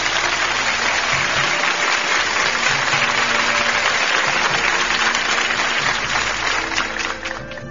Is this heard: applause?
yes